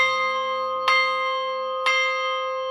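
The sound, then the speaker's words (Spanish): A church bell rings twice at a steady pace, rung for daily mass, each strike about a second apart, with a rich, sustained metallic hum that lingers between strokes. No voices are present. “Vamos a tocar un toque de misa diaria.”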